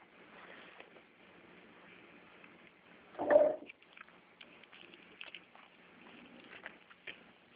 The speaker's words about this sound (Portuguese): Sai, gata. Arranhando tudo aqui.